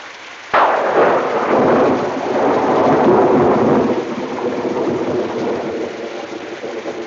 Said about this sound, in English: We're safer with the rain, you know. One more lovely spring day like yesterday, and we'll need a group lobotomy.